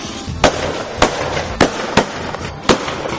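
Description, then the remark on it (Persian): Five sharp rifle shots fired into the air to alert a train's locomotive driver crack out at uneven intervals, each a loud, abrupt bang with a brief tail, ringing out over a steady background rumble with no voices. “تفنگشو برداشت و شروع کرد به شلیک هوایی.”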